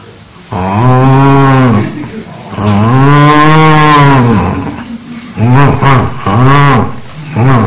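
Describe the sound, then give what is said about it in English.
A person with a slightly sore throat imitates a cow with several drawn-out, loud mooing calls: two long sustained moos followed by a few shorter, wavering ones, with no other talking. “I have a little sore throat, so it's not a good cow.”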